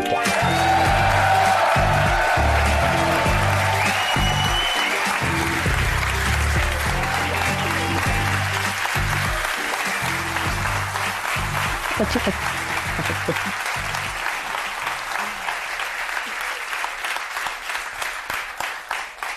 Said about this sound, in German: Ein krasser Applaus, habe ich gar nicht mitgerechnet.